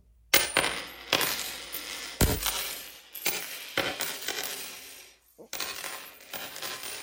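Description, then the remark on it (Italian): Coins clink and jingle in a series of bright metallic bursts, several distinct drops and rattles, with brief pauses between them and no voices. “Un tintinnar di monete accompagna l'inizio della quinta tappa di questo viaggio nella terra del noi.”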